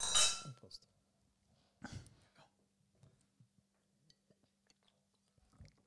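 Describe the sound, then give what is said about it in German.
A bright clink of glasses in a toast between a beer (an India Pale Ale from Carinthia, Austria) and a Sauvignon wine rings out at the start, a second clattering knock follows, then quiet, soft sipping and small mouth sounds over a faint steady hum. “Na gut, dann cheers. Prost.”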